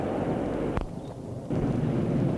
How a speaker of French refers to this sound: Elle se met à courir à travers champs, sous la pluie, il la suit. La pluie grandit, le tonnerre gronde.